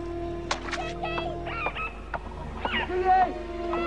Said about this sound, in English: The dolphins!